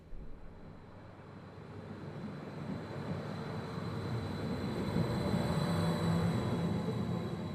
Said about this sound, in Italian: Mendrisio, stazione ferroviaria. Binari vuoti, binari pieni. Treni in partenza. Qualche viaggiatore disperso. Binari semi vuoti, semi arrugginiti, semi utilizzati. Porte che si aprono, porte che si richiudono,